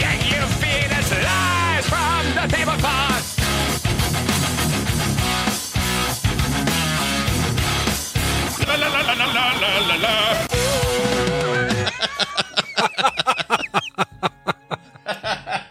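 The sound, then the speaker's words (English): Loud, frantic screams and yelps recorded from a horror video game playthrough, chopped and layered into a dense, musical-sounding mix, building continuously before breaking into rapid, stuttering repeated vocal bursts near the end. “it's some of your screams from Resident Evil”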